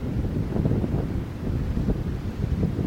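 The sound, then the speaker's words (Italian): Steady wind buffets the microphone over a low, continuous rumble of sea and water noise heard from a ferry, loud, with no voices and no clear breaks for the whole stretch. “Ed eccoci davanti al mare, si sente odore di mare e rumori di mare.”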